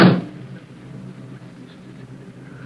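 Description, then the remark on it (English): A single heavy thud as a car's back door is shut, followed by a low, steady engine rumble as the stopped car idles on a deserted road several miles from an airport in the evening, while a figure slips into the back seat. No one speaks. “On a deserted road, several miles from the airport, a car is stopped and the back door is open. A dark figure emerges from the surrounding shadows and slips into the back seat.”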